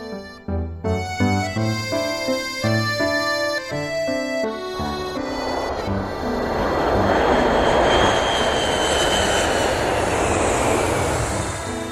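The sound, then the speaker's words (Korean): A short melodic passage of music fades into the steady, loud roar of a grey airplane's engine in flight to Sapporo, Japan, where it lands at New Chitose Airport after three and a half hours; a broad rushing drone that swells and holds to the end. “일본을 향해 출발한 지 얼마 되지 않아 하얀 산들이 모습을 드러냈고 회색빛 비행기는 3시간 반 만에 삿포로 신치토세 공항에 내렸다.”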